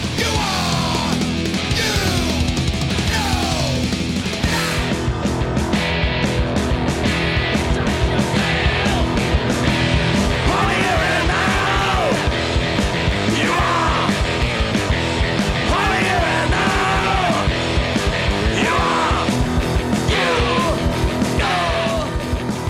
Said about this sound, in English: sounds like a group of people that are kind of covering their eyes and they're screaming at the top of their lungs, like a almost like a banshee kind of thing going on.